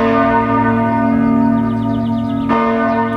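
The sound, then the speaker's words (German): The Krise bell of St. Michael's Church in the town of Zug rings loudly and continuously at midday, its rich overtones sustaining and overlapping, with a fresh strike around two and a half seconds in; no voices are heard. It rang for a quarter of an hour, the first time in about 200 years. “Krise-Glocke heisst die Glocke, die heute Mittag in der Stadt Zug bei der St. Michael-Kirche eine Viertelstunde lang geläutet hat.”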